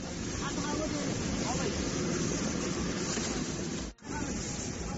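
Steady, dense wash of open Mediterranean sea water off Lampedusa churning against a moving boat, with wind buffeting the microphone throughout; the roar briefly cuts out near the end before resuming.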